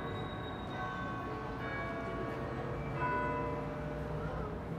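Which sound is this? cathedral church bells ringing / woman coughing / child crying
cathedral church bells ringing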